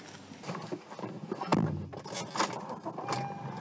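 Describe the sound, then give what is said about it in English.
Keys jingle and clothing rustles as someone climbs into a packed car to leave on vacation, followed by a solid door thump and the car engine turning over, with no talking. “Okay, I got in the car, started the engine, I'm ready to go.”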